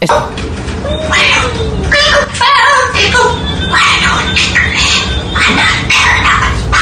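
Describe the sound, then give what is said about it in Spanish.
A parrot whispers in English, a steady run of breathy, hissing syllables with brief pauses, imitating hushed human speech, saying roughly that it wants to tell a secret and is not a parrot but a spy. “Este es el loro hablando.”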